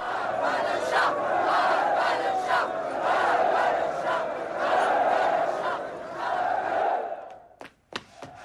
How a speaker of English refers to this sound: In this scene, crowds in Tehran call for the fall of the Western-backed Shah